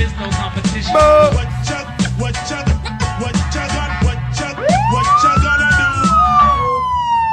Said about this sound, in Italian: Ci sta anche bene la sirena in chiusura.